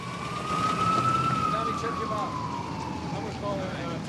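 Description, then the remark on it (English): Police and paramedic vehicle sirens wail outside a house in a long, slow rise and fall, fairly loud and steady over a dense bed of street noise with faint background voices. “The police and paramedics are outside.”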